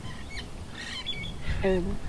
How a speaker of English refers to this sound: Right now we can hear some parrots in the trees above us